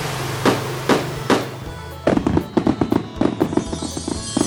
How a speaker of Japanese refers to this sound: クラッカーに紙テープ、おまけに紙吹雪とは。宴会でも始める気かね。